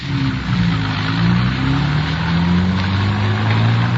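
A car engine revs and pulls away from a stoplight on the way to downtown Los Angeles, its steady low drone rising in pitch as it accelerates, loud throughout with no voices.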